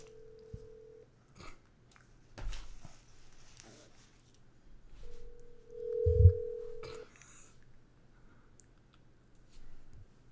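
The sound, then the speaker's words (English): A telephone call rings out: two long, steady ringing tones separated by a pause, with a few sharp clicks and handling noises in between. No one speaks. “Is it a phone? You better fucking answer.”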